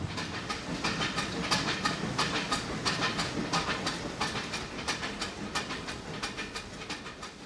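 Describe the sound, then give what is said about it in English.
A Disneyland Railroad steam train rolls steadily along the tracks at Disneyland, its wheels clicking over rail joints in a quick, regular rhythm beneath a broad, continuous rumble and hiss, moderately loud throughout. “It takes more than 40 engineers to keep the Disneyland Railroad up and running every day. The steam locomotives need constant attention.”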